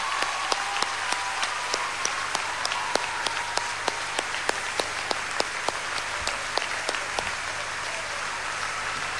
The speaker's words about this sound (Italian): sono i suoi genitori, e a loro l'applauso più generoso di questa piazza e di tutti quelli che hanno amato Alex.